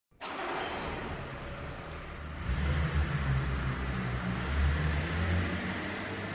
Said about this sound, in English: Then Dan and Dad got into the car and drove to the hotel.